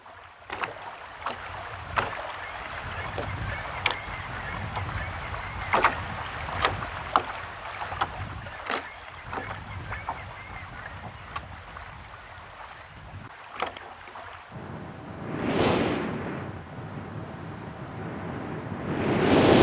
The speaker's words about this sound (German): Und das sind, also wie wir jetzt gehört haben, das sind halt viele Geräusche, die Bewegung suggerieren. Das Rauschen der Wellen, Rauschen des Windes.